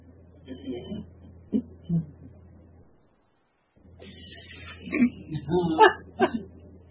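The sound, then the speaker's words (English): A person clears their throat in short, gravelly bursts, first a few quiet rasps, then after a brief pause a louder, more forceful series. “I was clearing my throat because I thought maybe something that I was thinking about would benefit the whole group.”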